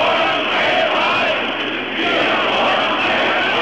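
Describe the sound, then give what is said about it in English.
A crowd of hundreds of thousands at a rally in East Berlin's main central square, East Germany, roars and chants for freedom and free elections, a dense, steady wall of many voices that stays loud throughout, dipping briefly midway before swelling again. “Hundreds of thousands marched calling for freedom in all its forms.”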